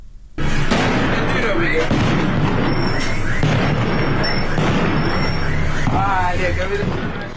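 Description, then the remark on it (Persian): Loud, chaotic outdoor scene in Sanandaj, Iran, on a Sunday evening as protesters gather and light fires: repeated sharp bangs and booming blasts of continuous gunfire and explosions go on beneath a roar of crowd noise and shouting voices. “تصاویر و ویدیوهایی رسید از سنندج تا از تجمع معترضان و روشن کردن آتش در شامگاه یکشنبه و صدای ممتد تیراندازی و انفجار حکایت داشت.”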